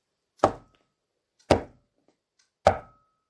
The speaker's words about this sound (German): Davor war eine eiserne Tür. Und an diese Tür klopfte Bautz, der alte Hund, mit seiner Pfote.